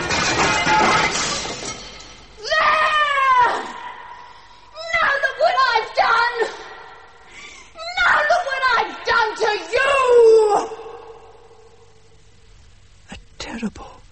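A loud crash of breaking glass bursts out at the start and rings off as a communion chalice is thrown as hard as possible at a glass face by an altar, followed by several strained, wordless vocal cries and a brief sharp knock near the end.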